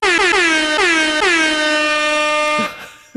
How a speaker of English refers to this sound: What was that? It's the air horn of Gondor. Oh, God. How many weeks have you been waiting to do the air horn of Gondor?